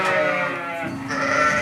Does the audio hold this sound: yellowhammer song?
no